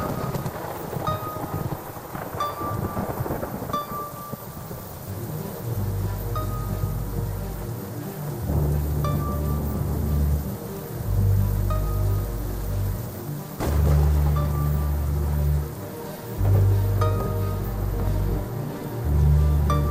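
Steady heavy rain from a thunderstorm pours down outside throughout, with deep rumbling swells of thunder rolling in and out underneath. No voices are heard.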